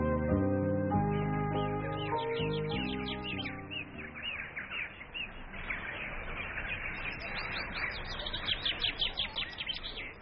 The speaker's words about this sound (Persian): بله بچه ها، صدای گنجشکا رو شنیدین؟ صبح شده، خورشید خانم همه جا رو روشن کرده. گنجشکام بیدار شدن و روی شاخه های درخت ها این طرف و اون طرف میپرن و جیک جیک میکنن.